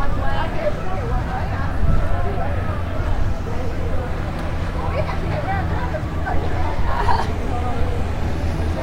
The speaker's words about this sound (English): Can you hear the water? Yep. Hear the wire coming? Is that it? Yeah. That's the boat, folks. About to jump on here.